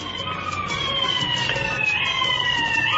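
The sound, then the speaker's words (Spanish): An ambulance siren wails steadily, its tones sliding down in pitch as it passes by over a bed of street noise, fairly loud and continuous throughout. “Lo está buscando la ambulancia.”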